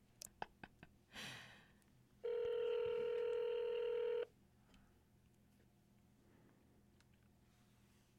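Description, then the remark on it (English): A phone being dialed to call the office of Member of Parliament Jane Philpott: a few quick taps, a breathy exhale, then a steady electronic phone tone holding for about two seconds, clear with no talking. “So we're calling Jane Philpott.”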